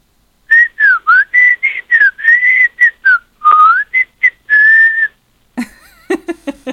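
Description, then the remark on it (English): A person whistles a quick, lively tune of short chirpy notes and a few longer held ones, clear, ending with a brief burst of clattering noise. “Whistle again.”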